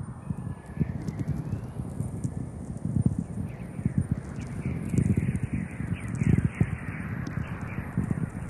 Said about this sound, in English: Listener Jim Hetrick of Stockton, California, with naturally occurring radio waves collected at the South Pole.